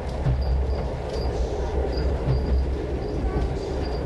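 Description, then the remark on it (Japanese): A steady, loud rumble of a Japanese night passenger train, running via Otaru and Sapporo to its terminus at Iwamizawa, rolling along the rails, with continuous low clatter and faint high-pitched whines flickering over the top throughout. “また列車の運転中にはデッキのドアを開けたままデッキに立たないようにお願いいたします。”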